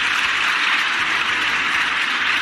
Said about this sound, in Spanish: Y toda esta cuadrilla de cretinos, ayer aplaudiendo así una ley de la muerte.